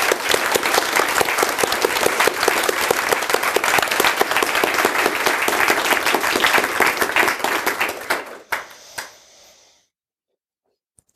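An event audience applauds loudly for BleepTrack for about eight seconds with dense, steady clapping, then it thins to a few scattered claps and fades into silence.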